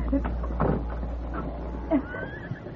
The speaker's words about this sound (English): I'll open the gate.